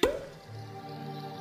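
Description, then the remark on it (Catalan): A single sharp, hollow pop of a cork coming out of a bottle opens the moment, then gives way to a quiet, steady low tone that lingers. “Destapa.”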